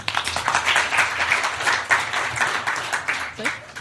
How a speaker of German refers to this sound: Wow, kleiner Applaus.